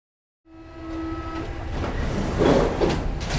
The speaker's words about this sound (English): On the subway.